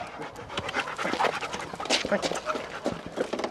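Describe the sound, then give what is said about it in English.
A working dog at a Blackwater training kennel, where dogs are trained to search cars and shipping containers, pants rapidly and steadily, quick breathy huffs repeating in a continuous rhythm for a few seconds, with faint background noise around it. “And there's a kennel where Blackwater trains dogs to search cars and shipping containers.”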